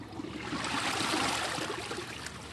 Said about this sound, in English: And again, that was the half flush at 0.8 gallons, half of what the old low-flow standard was.